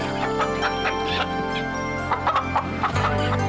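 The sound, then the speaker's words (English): A group of chickens clucking in quick, irregular bursts, moderately loud, over a steady low background hum, as chickens and rabbits run through a church sanctuary during a sermon. “So the pastor's sermon was interrupted by a bunch of chickens and rabbits running through the sanctuary.”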